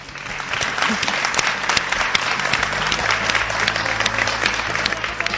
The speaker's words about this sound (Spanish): Hay lámparas en varios puntos, hay una pintura con rascacielos, estamos rodeados de amigos también lectores. Por favor, quiero que los oyentes les oigan. Un aplauso.